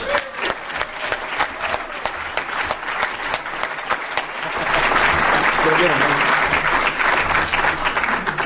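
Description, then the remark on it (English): A crowd breaks into steady applause for the next speaker, many hands clapping densely, swelling louder partway through and holding strong to the end, with some voices mixed in. “So next up, and I'd like you to outdo yourselves on the applause this time”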